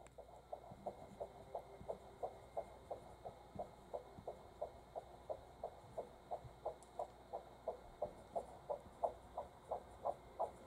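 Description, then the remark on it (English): A rapid, steady whooshing fetal heartbeat from a doppler monitor, recorded at the doctor's office in week 8 of pregnancy, roughly two beats per second, pulsing evenly over a low background hum with no one talking. “I'll play the heartbeat again that we heard at the doctor's office in week number 8.”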